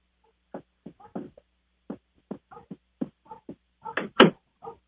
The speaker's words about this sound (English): Now she's back in the room. And, oh, door.